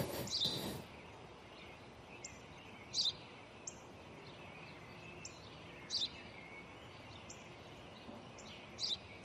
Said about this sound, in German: Was ist das? Das habe ich dir doch gerade gesagt, Vater. Es ist ein Spatz. Was ist das? Ein Spatz, Vater, ein Spatz.